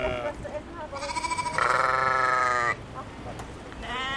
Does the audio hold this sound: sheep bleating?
yes